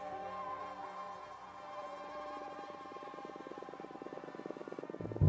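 A steady, whining insect drone of Aedes aegypti mosquito wingbeats with harmonic tones that shift and blend, sustained throughout, ending with a brief louder burst.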